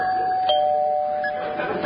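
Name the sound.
doorbell ringing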